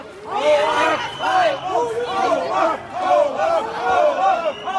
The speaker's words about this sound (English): But as they left, there were angry shouts from the crowd.